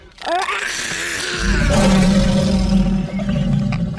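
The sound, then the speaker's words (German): A large lion at a zoo gives a loud, deep roar that swells and rumbles for several seconds, its low growling tone building after a rising onset and holding strong before fading slightly. “Nein, zuerst die großen Löwen.”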